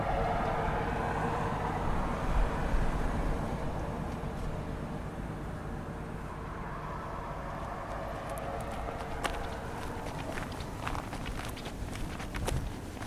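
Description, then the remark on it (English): Footsteps walk steadily along a hard road towards the fishing boats in a fishing town, a regular clopping rhythm set against a constant outdoor rumble, with a few sharper scuffs and clicks toward the end. “Let's walk along the road towards the fishing boats.”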